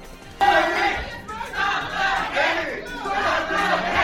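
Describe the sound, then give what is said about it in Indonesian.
A group of activists shouting loudly together in the Arizona state Senate chamber on a Wednesday, protesting a proposed ballot measure to make illegally crossing the Arizona-Mexico border a crime; overlapping voices break out abruptly and keep going in rising and falling bursts without pause. “Mereka berteriak menentang usulan pemungutan suara yang bertujuan untuk menjadikan penyeberangan perbatasan Arizona-Meksiko secara ilegal sebagai kejahatan.”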